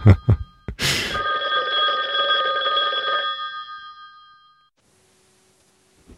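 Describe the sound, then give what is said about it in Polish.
A telephone bell rings loudly after a couple of sharp knocks, its bright ringing tone sustained for a few seconds before fading into near silence. “No dobra, już tutaj następni dzwonią”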